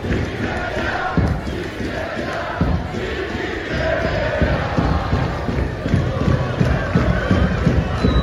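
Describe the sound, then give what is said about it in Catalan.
A dense football stadium crowd roars and shouts continuously at the team's bench in the final stretch of a match, a loud wall of overlapping voices with sharper collective yells rising out of the din and no pause throughout. “Ahir, crits apuntant directament a la banqueta.”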